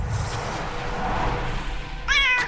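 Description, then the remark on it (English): A single short, high-pitched cat meow rings out clearly near the end, following a couple of seconds of steady low rumbling background noise. “call forth Kieran's spirit from this fae spirit from the other world into the form of a Tressum, a winged cat”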